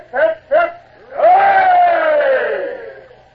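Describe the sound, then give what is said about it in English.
A crowd gives three cheers for King Louis XVIII of France in unison: two short, sharp shouts, then one long, loud, drawn-out hooray that holds steady before slowly trailing off. “it's time for a gesture on our part. And three cheers for the king.”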